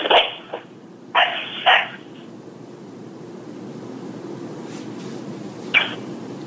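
A dog, Snoozer, barks twice in quick succession on a voicemail recording, thin and tinny as if over a phone line, with a steady low hiss filling the otherwise quiet background.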